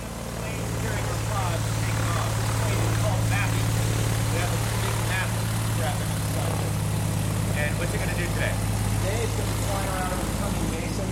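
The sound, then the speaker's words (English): A propeller plane's engine roars steadily and loudly, a constant low droning hum with rushing noise that holds for the whole stretch as the aircraft takes off from the airport in Odessa, Texas, on a low survey flight with cameras. “So those planes taking off from the airport in Odessa, they fly low at about 1,000 meters, and their cameras scan what passes beneath them.”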